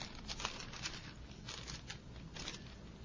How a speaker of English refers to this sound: Okay, we're going to go from Galatians to Ephesians, and I know I'm running a little over, but we're going to go to Ephesians 2. I'll get these pages turned in a minute.